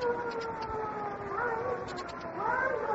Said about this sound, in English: There's the siren, the signal. They've picked them up at the border.